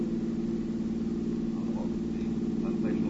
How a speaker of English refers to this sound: And then later, while driving around looking for a place to park for the night, a place where I could sleep, I turned on the car radio.